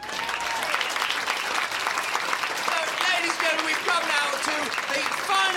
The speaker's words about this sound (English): So once again, let's build up the applause. Builders, time to go to work.